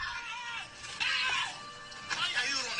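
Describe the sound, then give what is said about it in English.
A person imitates the scream of a Disney cartoon character running away, letting out shrill, strained vocal bursts in two loud swells, with no other sounds around. “And that's how she screams.”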